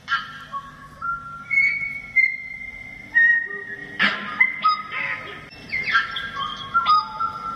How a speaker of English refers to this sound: a little track now which will give you an idea of what the tui sounds like